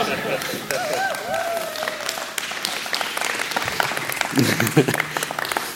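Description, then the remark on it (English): A church audience claps in scattered, uneven applause, with voices calling out and chatting underneath and a few whoops rising over the clapping. “Oh, that was a terrible clap.”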